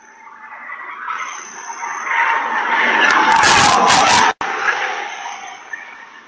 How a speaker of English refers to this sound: her brakes were screaming. She had her foot jammed on the brakes.